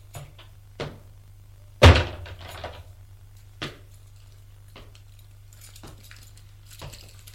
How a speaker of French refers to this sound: Alors, j'ouvris la porte de l'appartement.